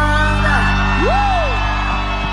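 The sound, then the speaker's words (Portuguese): An audience shouts and cheers loudly after a live song, answering the singer's call to scream and make noise, with a single rising-and-falling whoop standing out above the steady din of many voices for a couple of seconds. “Quem gostou pode soltar, grite e fazer barulho.”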